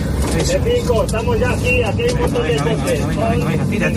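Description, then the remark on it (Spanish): Steady rumble of a car carrying a firefighting team to a wildfire zone, heard from inside, with constant engine and road noise while people talk over it throughout. “Es un equipo de extinción desplazándose en coche a la zona del incendio.”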